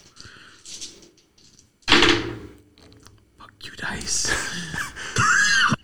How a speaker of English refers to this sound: Dice. Wait, that's what we like to hear.